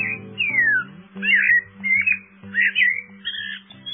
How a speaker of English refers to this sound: Eurasian blackbirds are common in the gardens and throughout the countryside in Great Britain.